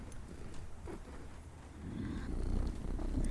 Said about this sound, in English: You're even making him feel your purr.